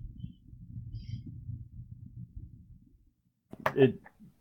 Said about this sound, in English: I'm like forcibly sliding the box open now. It's like the box drew a suction.